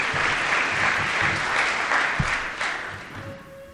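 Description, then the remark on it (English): A crowd claps steadily, a dense wash of many hands with no gaps, sustained throughout before easing slightly toward the end; the applause is for E-Tank of Cady Street County, which is celebrating 5 years. “They could not be here today, but let's give them a round of applause anyway.”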